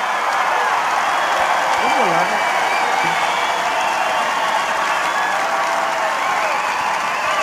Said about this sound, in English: Wow. Trump's walking around the stage to this cheering, like, oh, yeah, hilarious. Like, he's accepting the applause. He's just walking around the stage in silence with his arms up, going, yep, yep, I'm right, I'm right.